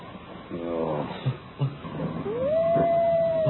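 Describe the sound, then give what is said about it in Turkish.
A wolf's long howl rises and then holds a steady, drawn-out tone, fairly close and clear, with a few soft knocks and rustles around it. No one speaks. “Duydun mu? Kurtlar yine başladı.”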